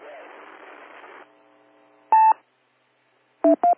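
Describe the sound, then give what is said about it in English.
Radio beep tones on a radio net, sounding as listeners are invited to check in with their call letters and names: after a burst of static and a fading hum, one steady two-tone beep sounds, then a quick pair of shorter beeps, each loud and clear against silence. “Anyone else that wants to check in, because you do have a question or a comment for the net, give me a call, letters in your name right now after the beeps.”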